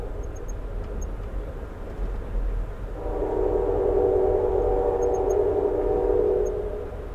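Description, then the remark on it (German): A train horn sounds one long, steady blast lasting a few seconds, rising out of a constant low rumble of a moving train at night in America, fairly loud, with no one speaking. “An das Tuten gewöhnt man sich irgendwann.”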